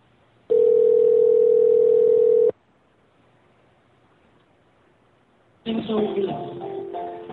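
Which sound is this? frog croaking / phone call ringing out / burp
phone call ringing out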